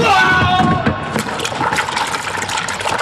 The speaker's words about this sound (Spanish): La araña negra perdió el equilibrio y cayó al mar.